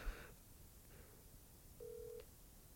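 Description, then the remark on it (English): A phone ringing on the line: one short, steady, buzzy ringback tone that holds briefly and stops, heard alone over a faint background hiss with no one talking. “It's ringing.”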